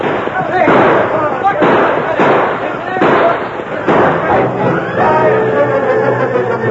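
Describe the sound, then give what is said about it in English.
Repeated loud, sharp gunshots crack out at an irregular pace, overlapping like two sides firing at once, as a posse fires from a stagecoach and outlaws return fire. Shouting voices rise beneath the volley toward the end. “First, they tried to return the fire of the posse.”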